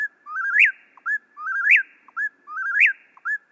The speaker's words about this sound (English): Mistnets baited with big speakers and blasting the birds' eponymous calls do the trick.